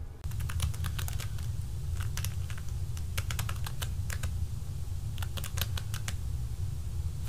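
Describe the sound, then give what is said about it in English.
Rapid, uneven bursts of clicky keystrokes as a password is entered on a computer keyboard, clustered in quick runs with short pauses, over a steady low hum. No one speaks. “I'm gonna give you my keyboard so you can enter the password yourself.”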